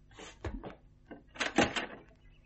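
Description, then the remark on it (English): A heavy door to a yard creaks and clunks open, with a couple of solid wooden knocks followed by a longer scraping swing, then fading quiet. “The door to the yard opened.”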